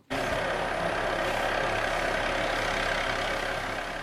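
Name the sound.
rescue helicopter engine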